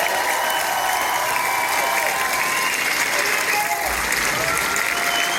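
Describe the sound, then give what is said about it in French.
A crowd applauds steadily at the end of an evening show, cheering for an accompanying musician; dense clapping fills the whole stretch at a loud, even level, with scattered cheers and whoops rising over it. “Faites du bruit pour lui.”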